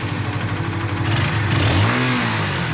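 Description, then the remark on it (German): A rider swings onto a motorcycle, turns the ignition key and starts it; the engine revs, its pitch rising and falling in a couple of throaty surges before settling into a steady rumble, loud, with no voices. “Sie schwingt sich aufs Motorrad, dreht den Zündschlüssel um und startet.”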